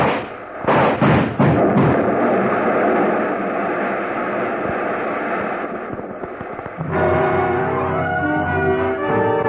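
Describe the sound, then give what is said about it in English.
A Buick bursts apart in an explosion of gasoline and the cordite powder in its trunk: several sharp, heavy blasts give way to a loud, steady roar of burning, and a sustained tonal swell rises at the end. No one speaks. “The car went up in a blast of powder and gasoline, and she moved back toward the other.”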